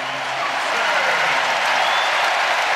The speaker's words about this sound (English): Works out, and as he's going to the bench, you can hear the crowd respond now.